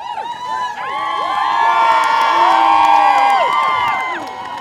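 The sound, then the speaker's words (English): A crowd in Whitehorse cheers loudly and continuously for a musher arriving at the finish of a sled dog race, with overlapping high-pitched shouts and whoops swelling in the middle before easing slightly, and faint clapping mixed into the roar. “If anything, cheers for the Yukoner were even louder than they were for the race winner.”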